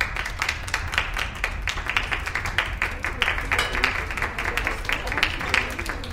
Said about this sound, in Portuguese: As palmas ecoaram na sala rápidas.